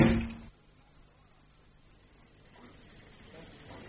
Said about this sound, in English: Bastard! Don't slam the door after you.